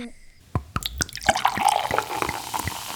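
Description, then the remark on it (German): Lemonade is poured into a glass: a few quick splashes, then a steady fizzing, bubbling fill. Fairly clear, with no voices. “Zitronenlimonade. Klar.”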